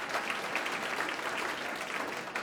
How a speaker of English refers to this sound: Plus, our thanks to our audience and to all the staff here at the Claw Ballroom for making us so welcome. Yes, you can give yourselves a round of applause. You've been wonderful.